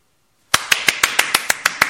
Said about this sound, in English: Full audience was clapping.